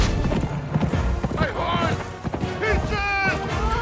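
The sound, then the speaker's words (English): A horse's hooves clip-clop in a quick, steady rhythm as it runs off, fairly loud, with voice-like tonal sounds mixed in over the hoofbeats. “The horse runs off.”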